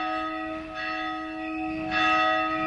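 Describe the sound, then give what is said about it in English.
The church bells of the Notre Dame nursing home toll along a narrow street in the Palestinian village of Abu Dis near the Mount of Olives. The steady, sustained ringing has bright overlapping tones that hang in the air and swell slightly louder toward the end, with no voices present. “The bells of the Notre Dame nursing home toll on a rare quiet day along this narrow street in the Palestinian village of Abu Dis near the Mount of Olives.”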